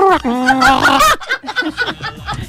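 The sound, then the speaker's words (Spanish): A person mimics a bird with a loud, warbling, sliding vocal call for about a second, then breaks into quick, chattering talk. “¿Qué hace de pájaro ahora?”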